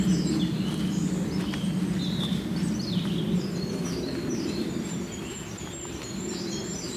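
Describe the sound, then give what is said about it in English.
Thin, very high-pitched goldcrest songs flicker repeatedly along a hillside path, with robins and other bird chirps mixed in, over a steady low rumble of wind or outdoor background noise. “Getting a bit closer to the goldcrests.”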